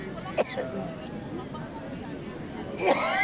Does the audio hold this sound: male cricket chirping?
no